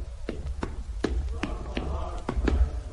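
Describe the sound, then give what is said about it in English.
Brisk footsteps of people walking down a corridor tap along a hard floor in a steady rhythm, about eight crisp steps over a low background rumble, with no one speaking. “We're walking down the corridor now.”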